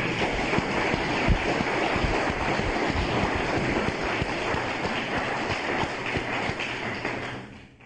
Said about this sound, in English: Let's have another round of applause for Terry.